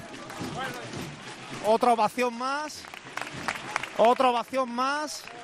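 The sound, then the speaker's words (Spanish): A crowd in the rain at Plaza Jesús de la Redención breaks into an ovation for a procession float carried by bearers, steady applause running under loud voices shouting and cheering in bursts, the clapping a dense wash throughout. “Otra ovación más aquí.”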